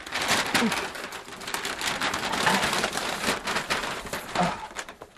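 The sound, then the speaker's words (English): Continuous crackling and rustling of stiff brown paper being torn and pulled open from a massive, heavy, square parcel, a dense stream of sharp, bright crinkles lasting several seconds with no voices. “Yeah, it's wrapped in brown paper. Yeah. So I'm gonna open it here.”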